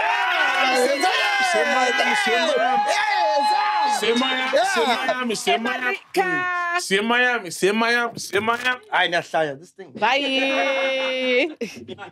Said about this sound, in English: Round of applause, man. You guys are amazing, man. Thank you.